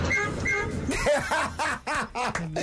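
A car horn honks twice in quick, bright bursts, then a voice breaks into laughter-like chatter that carries the rest of the moment.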